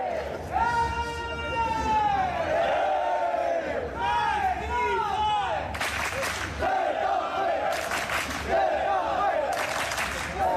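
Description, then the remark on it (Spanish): A crowd of Getafe football fans chants "Getafe, Getafe" in loud, rising and falling unison while queuing for tickets at dawn and preparing an improvised breakfast, with sharp bursts of shouting and clapping breaking through in the second half. “Y así, gritando Getafe, Getafe, iban preparando un improvisado desayuno y esperando a que abrieran esas taquillas.”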